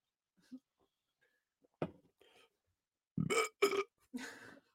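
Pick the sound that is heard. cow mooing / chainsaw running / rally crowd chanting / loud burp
loud burp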